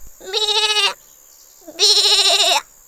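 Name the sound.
young goat bleating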